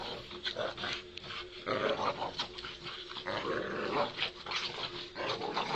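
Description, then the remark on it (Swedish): Two dogs growl and snarl continuously while pulling at opposite ends of a blue knotted rope, a steady rumbling struggle with occasional sharper yips and whines rising out of it, no talking. “De här hundarna kämpar och drar i varsin ända av en blå repstump med knutar på.”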